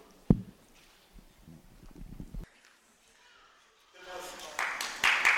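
Low, uneven thumps fade into a short lull, then a crowd's clapping swells up, growing louder and denser toward the end.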